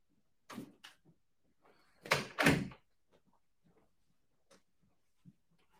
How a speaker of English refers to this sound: In fact, I'm going to close the door before we go any further.